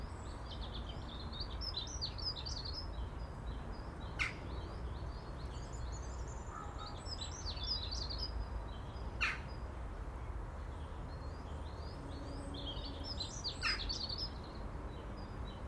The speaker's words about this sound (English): And beautiful birdsong.